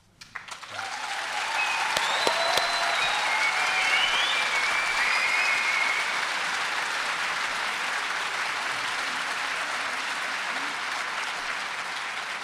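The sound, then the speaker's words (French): Sustained audience applause rises quickly and holds steady at a loud, dense level for over ten seconds, with a few whistles or cheers threaded through early on. “Alors maintenant que vous avez applaudi, on va vous donner le contact de l'association”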